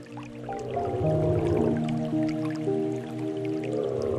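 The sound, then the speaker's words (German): Water drips and splashes in a steady wet patter, with squishy, sloshing sounds as a person and dinosaurs who have just climbed out of warm water in a cave shake themselves off like wet dogs. No voices are heard. “Ihr schüttelt euch wie nasse Hunde.”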